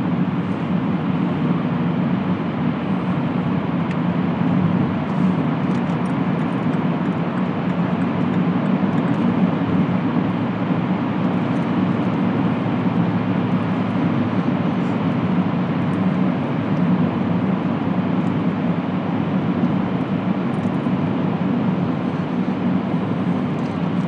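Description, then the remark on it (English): A steady, loud roar of a car driving through a curved two-lane tunnel with concrete on both sides under the River Lee, with a constant low rumble and broad hiss of road and engine noise, unbroken for the whole stretch and no voices. “And I'm going to go under the River Lee now, so the sound, I'll just let you hear the sound of driving under a river.”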